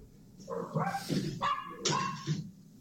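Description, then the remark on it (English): A dog in a played video barks several times in quick succession, sharp yelping barks with short gaps between them, fairly loud, with no talking over them. “Yeah, this is where you wish it was like the movies and the dogs like bite a guy's ass and trip him.”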